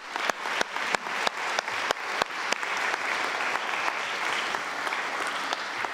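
Audience applause: a few sharp, separate claps at first that quickly swell into a dense, steady wash of clapping from many hands, staying fairly loud throughout with no voices.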